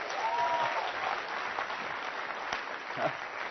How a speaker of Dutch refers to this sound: Geef de Heer eens even een applaus.